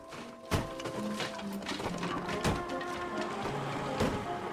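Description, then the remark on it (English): A man smashes a hole through a bedroom wall into the bedsit next door with a sledgehammer, heard from the street: a handful of sharp, irregular blows spaced a second or more apart, set against a steady background wash with faint sustained tones; no one speaks. “The sound of hammering is heard from the street.”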